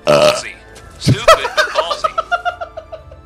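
A loud, drawn-out belch bursts out up close, followed by a second low croak and then a string of rhythmic, chuckling laughter that fades toward the end.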